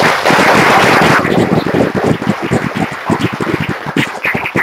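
Audience applause at Exeter welcoming speaker Yaron Brook of the Ayn Rand Institute starts as a dense, loud wash of clapping, then thins into scattered individual claps that gradually taper off over the next few seconds. No one speaks.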